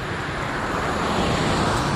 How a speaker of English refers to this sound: I mean, right now, in fact, you should hear traffic on my right. There's one coming from back to front, you can probably tell.